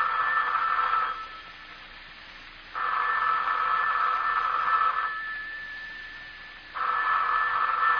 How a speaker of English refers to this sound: the telephone's ringing. Aren't you going to answer it?